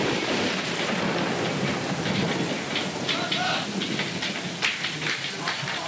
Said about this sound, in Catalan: Hola, això comença a ploure de cop, eh? Quan plou, plou.